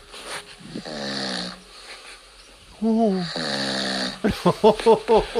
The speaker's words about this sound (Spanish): Oye, ¿es que este tío ronca mucho?